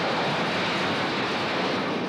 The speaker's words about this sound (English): Here we go. Let's open the hangar door.